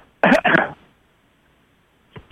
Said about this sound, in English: Father, Mother, God, we ask, oh my God, let me clear my throat.